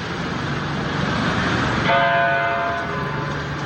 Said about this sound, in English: the one-week mark of the massacre at Sandy Hook Elementary churches across Newtown, Connecticut, rang their bells 26 times in remembrance of lives lost. Hear the first. Then a long 19 seconds before the second, and on, 6 minutes of bells in Newtown.